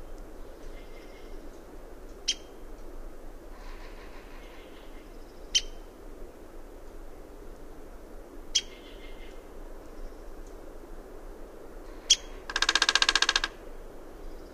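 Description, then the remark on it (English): A downy woodpecker gives several sharp, high single calls a few seconds apart, then drums a fast, machine-gun roll on a dead aspen limb lasting about a second, over a faint steady hiss. “His location becomes obvious when he drums out his machine gun rhythm on a dead aspen limb.”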